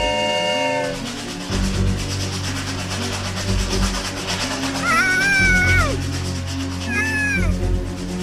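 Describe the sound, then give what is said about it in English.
A train horn blares briefly at the start, followed by a steady low rumble of a train rolling along the tracks, with a couple of high, cat-like meowing cries rising over it. “She's on the train tracks!”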